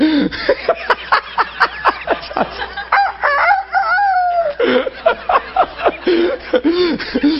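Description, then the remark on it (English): A rooster clucks in a rapid series of short, sharp calls, then lets out a long, drawn-out crow that falls in pitch before the clucking resumes, loud. “Do you ever go in a barnyard and the old rooster meet you on the lane?”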